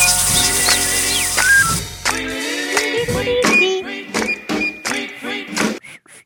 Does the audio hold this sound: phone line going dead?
no